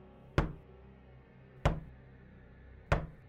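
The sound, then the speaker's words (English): Knuckles knock on a red door three times, slow and evenly spaced, each rap sharp and solid with a brief ring, separated by quiet pauses. No one speaks. “I lift my knuckles, and before I can talk myself out of it, I answer.”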